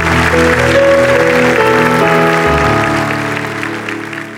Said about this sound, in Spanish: Un aplauso a su Dios. Qué bueno eres, Señor.